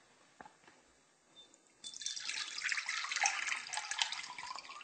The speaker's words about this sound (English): Then, twice a day for the next 5 to 7 days, depending on what seeds you're using, you're going to continue to rinse and drain the seeds inside the jar by using this screen, just by pouring off the water.